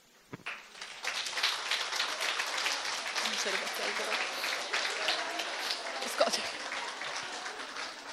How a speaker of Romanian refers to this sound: Aplaudăm ceea ce Dumnezeu va face cu voi.